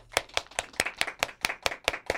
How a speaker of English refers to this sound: Crisscross, and everyone clap your hands, because it can't happen anymore.